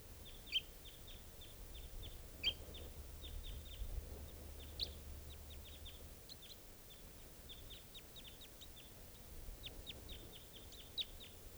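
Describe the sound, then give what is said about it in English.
A wild bird gives rapid, repeated high-pitched chips and short calls in uneven bursts throughout, with a low rumble underneath and no one talking. “Got that male, and there's still another bird here.”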